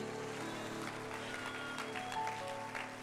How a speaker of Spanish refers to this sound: Den un aplauso.